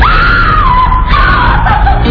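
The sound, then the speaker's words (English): A woman in a bathroom, startled by someone hiding behind the bathroom door, lets out a loud, sustained scream of terror, shrill and unbroken for about two seconds, alone with no talking. “In a minute, we'd hear this god-awful scream.”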